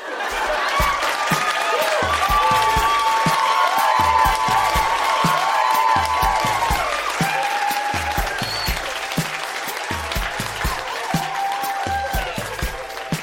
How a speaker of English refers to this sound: Yellowknife, that has been Grown-Ups Read Things They Wrote as Kids. Huge round of applause for all of the readers tonight. So good.